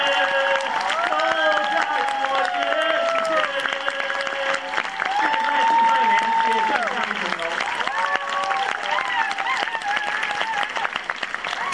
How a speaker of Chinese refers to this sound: 我哋俾更加热烈嘅掌声，好嘛？